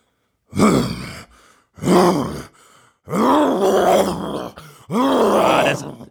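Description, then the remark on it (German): A person imitates a lion's roar with four loud, growling vocal bursts, each rising and falling in pitch, the last two longer and separated by short pauses. “Löwe. Ja.”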